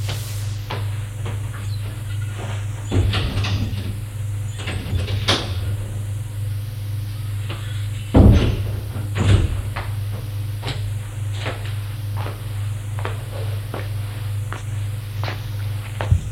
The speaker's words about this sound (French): Et Galien va ouvrir la porte qui donne aux caves.